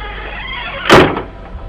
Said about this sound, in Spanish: Arriba, a la vuelta de la esquina, la puerta del sótano se cerró de golpe.